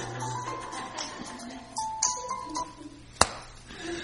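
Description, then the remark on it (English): A phone notification ping sounds as a brief, thin electronic tone, followed by a single sharp tap, both fairly quiet over low room hum with no one talking. “Let me fix my phone. I forgot to do that earlier.”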